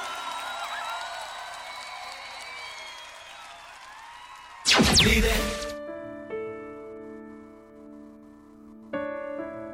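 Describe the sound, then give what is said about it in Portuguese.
An audience breaks into a short, loud burst of applause for Jesus lasting about a second, after wavering voices, then gives way to sustained, ringing keyboard chords. “E aplauda Jesus. O dono da tua vida.”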